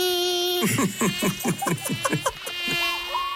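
mosquito buzzing

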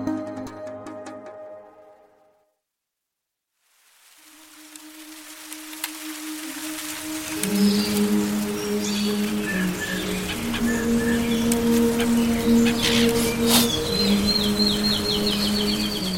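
birds singing

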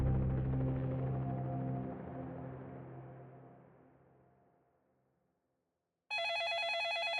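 telephone ringing

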